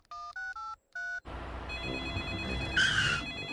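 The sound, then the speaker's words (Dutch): A phone places an outgoing call to Grandpa Dog's tow-truck service: four quick, evenly spaced keypad beeps, then a dense crackling line noise with a brief bright warbling tone near the end. “Ik bel even naar de volgende hulpdienst.”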